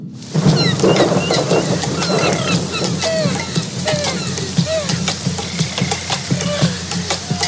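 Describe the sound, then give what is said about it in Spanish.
Steady, heavy rain pours throughout, with dense crackling drops and a low rolling rumble of thunder underneath; no one speaks. “El sol llamó a las nubes para que lo escondieran y luego les pidió que hagan llover.”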